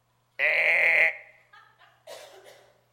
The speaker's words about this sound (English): And why do I hear all these sheep bleeding? B-L-E-E-T, not B-L-E-E-D-I-N-G. Bleating.